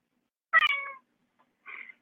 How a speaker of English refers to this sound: I just heard a cat.